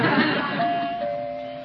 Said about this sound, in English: Yeah, listen to that. Even Mrs. Pettibone's door chimes have class.